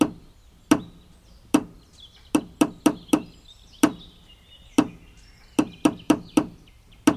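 Sharp hammer blows ring out in a rhythmic pattern, single strikes alternating with quick runs of four, while faint birdsong chirps in the background.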